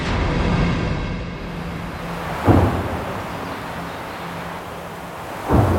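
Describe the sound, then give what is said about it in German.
Two gunshots crack through a forest near Rocherath on the Belgian-German border, fired by Belgian army soldiers training at the nearby Elsenborn military training area. The shots come about three seconds apart, each followed by a short rumbling echo, over a steady wind-like hiss with no voices. “Auch 80 Jahre danach hallen Schüsse durch den Wald bei Rocherath an der belgisch-deutschen Grenze.”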